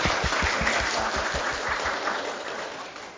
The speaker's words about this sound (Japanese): 改めまして先生に拍手をしたいと思います。